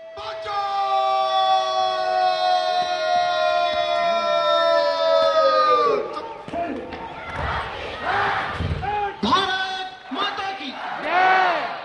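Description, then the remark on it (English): A single voice holds a long, loud, drawn-out shout for several seconds, then a large crowd of tourists erupts in roaring, cheering and overlapping bellowed cries that rise and fall in waves, a shouting match across the border gates at the evening flag-lowering parade at Wagha on the India-Pakistan border. “A shouting match begins.”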